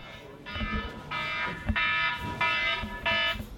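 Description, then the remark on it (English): A blaring emergency-alarm ringtone on a man's phone sounds in four loud, harsh, buzzing bursts, repeating in a steady on-off pattern, over a low background rumble. “His ringtone, appropriately, is a blaring emergency alarm.”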